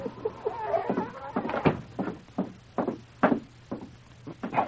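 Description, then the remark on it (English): A door being nudged ajar by a large dog, King, with his nose, rattling with a series of uneven wooden knocks and bumps over a steady low hum, with a brief faint creak at the start. “Before the Mountie could swing it open, the great dog nudged the door ajar with his nose, then stood at the threshold, whimpering as he looked inside.”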